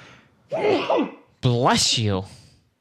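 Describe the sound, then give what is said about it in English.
A single loud sneeze: a short breathy wind-up followed by a forceful, voiced burst that trails off, with no talking around it. “Bless you.”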